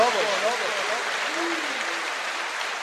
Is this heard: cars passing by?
no